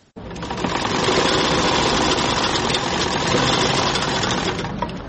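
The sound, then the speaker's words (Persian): A sewing machine in a small tailoring shop where men's clothes are sewn runs steadily, a dense, even mechanical whir with a fast rattling pulse that starts abruptly and holds at a constant loud level without any talking. “در یک دکان کوچک خیاطی همراه با 5 تن شاگردش سرگرم کار است و لباسهای مردانه می دوزد.”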